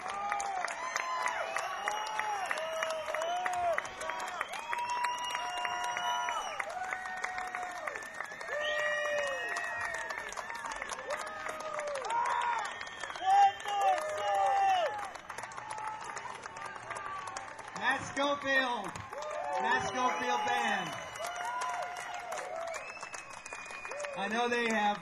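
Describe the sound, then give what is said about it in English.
A concert crowd in New Jersey claps and cheers steadily for the whole stretch to call a band back for an encore. Dense, sustained applause carries rising and falling whoops and shouts, with a few louder bursts of hollering toward the end. “Stage, but if we cheer loud enough, maybe we can get them back for one more.”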